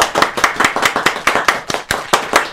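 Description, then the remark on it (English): Steady applause from an audience welcoming Hollywood actor Henry Winkler onto a show, many hands clapping in a dense, crackling patter at a strong, even level with no voices over it. “Well, I didn't hear any applause.”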